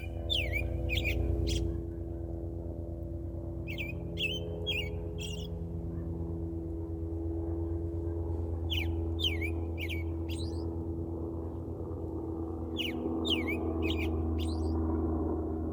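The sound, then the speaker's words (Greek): Short bursts of bright, chattering birdsong from a garden field recording recur every few seconds in clusters, layered over a steady low sustained drone of bowed-string tones improvised on violin and viola. “Πάνω από ηχογραφήσεις πεδίου, από ένα κήπο, με ήχους πουλιών, μια ορίσματα γάτας και ψήθυρος, αυτοσχεδιάζουν ή φαίνοντας κύματα οργανικού ήχου που αιμορραγούν στο θρόισμα του περιβάλλοντος, σαν ένας διαλογισμός”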